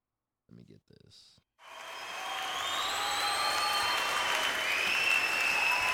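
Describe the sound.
A few brief voices, then a live concert crowd bursts into loud, sustained applause and cheering that swells and holds, with piercing whistles cutting through the dense clapping.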